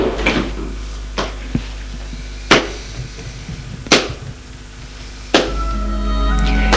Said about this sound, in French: Et François ferme la porte.